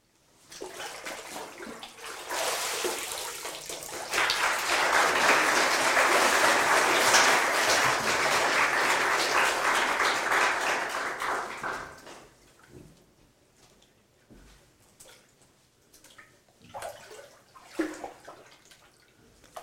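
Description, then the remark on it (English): Loud, sustained splashing and rushing water as a person is lowered into and lifted from a pool during an immersion baptism, lasting several seconds before fading into quieter drips and small sloshes. “On this confession which you have made before God and these witnesses, I baptize you with water.”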